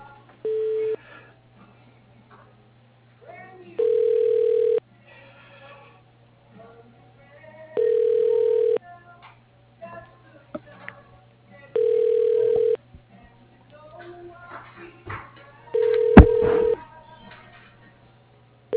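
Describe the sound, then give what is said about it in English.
A telephone ringback tone repeats five times at a steady interval as a call to Cadet Construction is transferred to voicemail, each mid-pitched ring lasting about a second, over a faint low hum with scattered soft background noises. “I can transfer you to his voicemail.”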